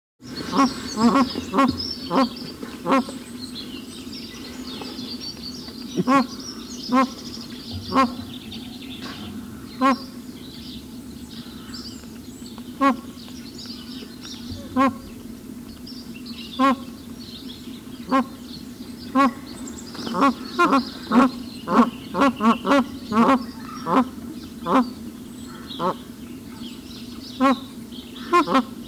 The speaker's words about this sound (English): These are the magpie geese, one bird, which apparently is a male, has been doing most of the talking. The occasional lower note comes from the second bird. I think that there is a pair plus one other bird.